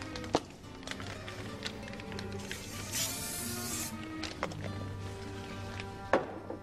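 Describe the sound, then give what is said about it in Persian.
A can of cooking oil spray hisses in one steady burst of about a second, greasing a baking mold, with light clicks and taps of handling before and after, over faint background music. “که مواد اون کاملا با هم مخلوط شد قالبمونو میتونن به وسیله یه قلمو چربش کنن یا با اسپری روغن روغن بپاچن چربشن.”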